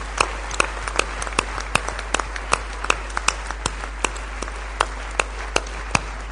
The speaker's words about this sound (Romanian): Let's give him some glory. Hai să aplaudăm pe el. Să dăm lui slavă. Hallelujah. Hallelujah.